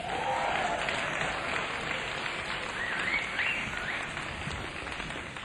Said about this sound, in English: I should also add that for all those of you who've always wanted to be on record or on the radio, tonight is the evening because tonight we are recording for Vara Radio. So if you want to clap, now's the time to clap.